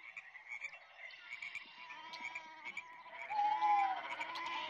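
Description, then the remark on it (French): Three sheep in a meadow between two villages bleat over one another at night in a continuous, wavering chorus. The calls overlap and grow a little louder near the end, with no talking. “Dans un pré, quelque part entre deux villages, trois moutons ont une discussion passionnée.”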